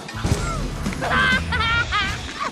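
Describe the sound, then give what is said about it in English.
A small helicopter, its rotor jammed by confetti, whirs and spins with warbling, wobbling tones rising and falling, broken by clattering thumps as it crashes, loud with no talking. “The copter spins, throwing the bugs off, then crashes.”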